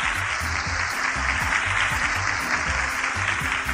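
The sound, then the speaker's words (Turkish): A steady burst of applause from many hands for a correct quiz answer, dense and continuous for a few seconds at an even loudness, with a faint low rhythmic tone underneath and no voices. “Haydi bakalım alkışlayalım.”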